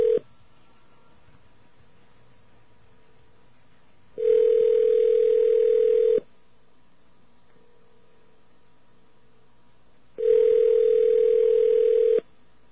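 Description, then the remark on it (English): A telephone ringback tone repeats on an unanswered call that goes to voicemail: steady, fairly low, buzzy two-second rings separated by about four seconds of quiet line hiss, with no voices. “That sounds like it's going to voicemail.”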